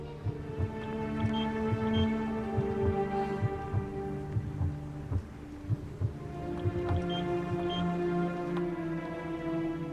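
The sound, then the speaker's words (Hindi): A steady heartbeat, the mother's own, thumps through a fetal monitor during a sonography check, regular low pulses repeating roughly every half second over a continuous electronic hum, with no talking. “ये खुद तुम्हारे दिल की धड़कन है।”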